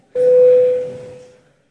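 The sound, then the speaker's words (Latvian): A single steady electronic tone rings out clearly at one pitch for about a second, then fades gradually into room noise: a parliament's bell called before deputies vote on a proposal. “Lūdzu zvanu.”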